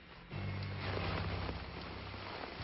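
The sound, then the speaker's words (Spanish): Heavy hail pours down in a dense, continuous, loud hiss and clatter, with a low steady rumble underneath that swells after a quieter first moment, during a 2007 hailstorm near Parque Simón Bolívar in Bogotá as people seek shelter. “Las personas trataban de buscar refugio tras la fuerza del granizo.”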